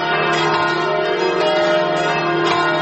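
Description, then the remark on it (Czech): Church bells ring continuously, their overlapping peals forming a dense, sustained wash of metallic tones with strikes recurring every second or so, loud and steady with no voices. “I od tada ih slušam i čujem drugačije, bilo ona sa katoličkog ili pravoslavnog hrama.”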